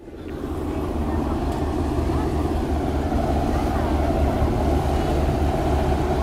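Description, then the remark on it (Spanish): A deep, steady drone of military helicopter rotors and engines passing over a beach, fading in quickly and then holding loud and constant overhead, with a thick low rumble throughout. “Vamos, que tú estás en la playa allí, los ahí estarán, estáis en la playa y lo mismo escucháis el paso de helicópteros militares que la llamada a la oración.”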